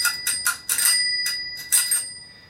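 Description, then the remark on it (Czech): A bicycle bell, just lubricated with silicone oil during bicycle repairs at a workshop in Brno, rung in two quick flurries of rapid strikes, each burst slightly rattly and buzzy, with a bright metallic tone that lingers and fades between them. No one speaks. “Není to stoprocentní, ale zvoní.”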